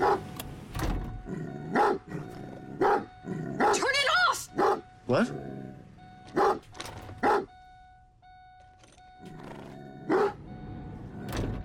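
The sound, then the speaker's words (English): A dog with its hackles up barks repeatedly in the back seat of a car, a dozen or so sharp, loud barks in irregular bursts with short pauses between them, over a faint steady electronic tone. “In the back seat, Allie notices that Otis has his hackles up.”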